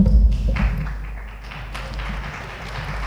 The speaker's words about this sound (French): Encore des applaudissements pour un droit de parole. Ça veut dire que quand même qu'ils sont vraiment de qualité et qu'ils sont parlants.